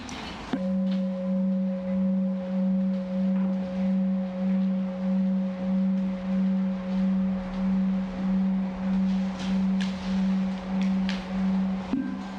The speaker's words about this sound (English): But just listen to this sound of the gong, and sometimes that really evokes just the sense of space.